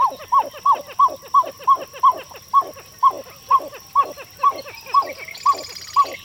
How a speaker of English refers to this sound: Nah, you're just wild and crazy sounding, like this pied-billed grebe.